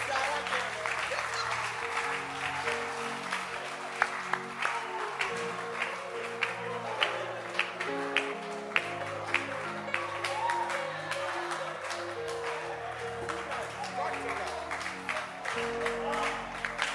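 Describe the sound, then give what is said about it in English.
An audience claps hands steadily for the whole stretch, a dense, continuous patter of many overlapping claps with some sharper individual smacks, over a bed of sustained low musical tones. “Clap your hands for her.”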